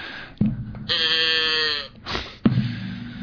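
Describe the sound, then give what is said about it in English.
A single free-range cow moos once on an autumn afternoon in Sonoma County, a drawn-out, harmonically rich call lasting about a second, between a couple of dull thumps and low rumbling background noise. “So next, is that a free-range cow? Yeah, it's a free-range cow.”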